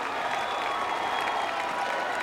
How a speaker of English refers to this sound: Deep drop handoff. Pumphrey stopped. Gang tackle. Line of scrimmage, and that's it. Listen to these crowd.